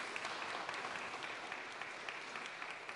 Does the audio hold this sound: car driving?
no